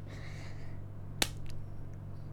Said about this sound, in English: I'm gonna slap my pussy.